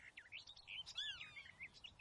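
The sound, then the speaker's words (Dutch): Blackbirds rustling in the bushes chirp and warble softly, a steady run of quiet calls with a few brighter, rising notes and no voices. “In de bosjes ritselen vogels, merels, denk ik.”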